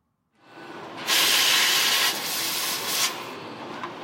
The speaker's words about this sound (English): Inside the production room at the Royal Mint, gold coins are passing through a striking machine. Each one is being stamped, an image of Britannia on one side and the Queen on the other, before they come out gleaming on a tray.